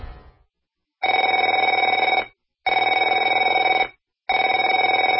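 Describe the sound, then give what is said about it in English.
A telephone rings in three steady bursts of about a second each, separated by short pauses, with a bright, buzzing electronic tone and no voices. “Afraid to answer it?”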